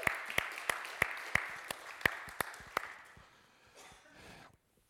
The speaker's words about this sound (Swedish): De är värda en applåd, eller hur? Tack så jättemycket. Hörrni, bättre kan ni. Ni kan bättre. Ni kan bättre, eller hur?